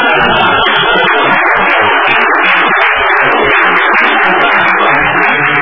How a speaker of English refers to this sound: Unfortunately, I have to hang around here for one more item, so... Well, we're going to applaud your tenure anyway.